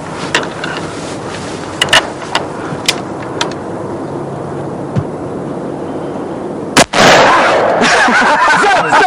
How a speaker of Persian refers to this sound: آره تو تیراندازیت خیلی خوبه، بزن بابا.